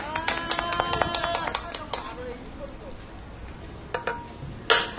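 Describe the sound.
A quick run of hand claps in a steady rhythm, sharp and fairly loud, with voices talking over them, followed by a pause and a few scattered claps at the end.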